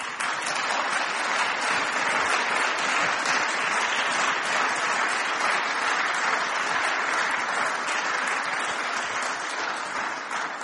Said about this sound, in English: I was going to tell you why they were clapping, but I don't think I will, actually.